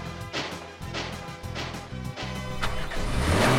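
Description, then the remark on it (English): A car engine revs loudly with a steady low drone, its pitch climbing toward the end as the vehicle pulls off, with no voices. “It's the car that ran away from us when we were learning how to count.”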